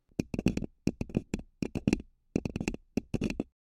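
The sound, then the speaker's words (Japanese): Fingernails tap rapidly on a paper cup placed over a binaural microphone. The hollow clicks are crisp and come in quick clustered bursts separated by brief pauses, with no voices. “バイノーラルマイクにかぶせて、その上から爪で。”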